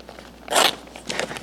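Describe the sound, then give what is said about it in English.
Paper with tape crinkles, a loud rustling burst followed by a few softer crackly bits of handling, with no one talking. “Got some tape on my paper.”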